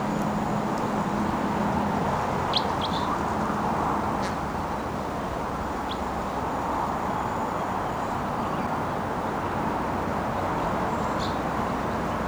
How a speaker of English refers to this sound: I can see one of the wild birds perched in a tree right next to the truck. And it's just out of range for shooting, but it's vocalizing here.